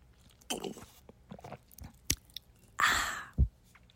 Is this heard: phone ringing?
no